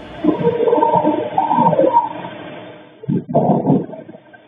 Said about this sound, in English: the security camera on that neighboring house picked up sounds, including what police described in charging papers as distorted audio of what sounded like voices or a whimper, followed by a loud thud. Here are those sounds.